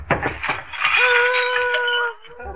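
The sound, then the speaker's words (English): A large cut glass punch bowl smashes: a flurry of sharp clinks and crashing shards, followed by a bright, sustained ringing tone that hangs for about a second before cutting off. “I don't know, unless it was that big cut glass punch bowl that lady checked about a year ago.”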